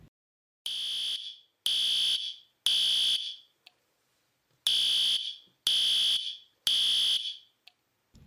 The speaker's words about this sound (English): While one must applaud the school for its high number of fire alarms on campus, it seems that many have a mind of their own.